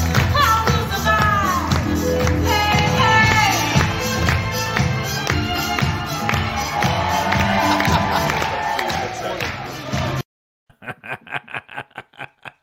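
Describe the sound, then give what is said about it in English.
A loud, dense crowd roars and cheers for about ten seconds as it is being warmed up, then cuts off abruptly, followed by a short burst of quick, rhythmic claps or taps. “we actually have somebody warming up our crowd today.”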